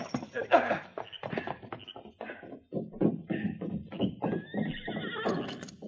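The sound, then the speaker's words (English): Horses whinny loudly as two riders rein them to a stop after dark in front of Jeff Piggott's office, a high quavering neigh rising over a busy jumble of hoof clatter and snorting, with another drawn-out whinny near the end. “Darkness had fallen when they finally reined up their horses in front of Jeff Piggott's office.”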